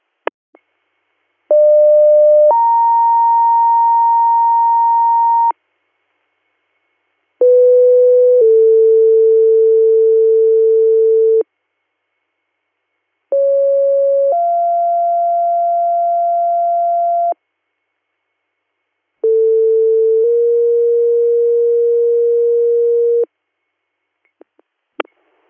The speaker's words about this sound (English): Copy that, stand by for tones.